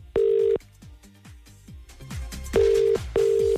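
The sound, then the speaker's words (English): A telephone rings out as a call is placed to a caller, with three loud, steady tone bursts, each lasting under half a second, separated by a short gap, while low thumping music plays underneath. “Right, phone in hand, let's do this then.”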